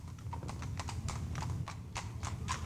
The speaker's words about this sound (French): Regarde, des chevaux et des carrosses avec des beaux messieurs et des belles dames !